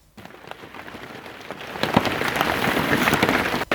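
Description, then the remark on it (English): Steady rain patters on a hard surface, a dense hiss of scattered droplet taps that swells louder and heavier partway through, with no voices. “as it ticks and ticks and ticks until the rain starts”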